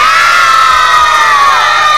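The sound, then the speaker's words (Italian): A group of children, Group B at Dinamo Camp, cheers and shouts a greeting together in a loud, sustained burst of high-pitched voices, a continuous wall of yelling and whooping that holds steady for about two seconds. “Gruppo B, fatemi sentire un bel saluto dal Dinamo Camp.”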